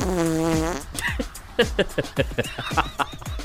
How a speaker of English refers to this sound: Nope, the fart was funnier.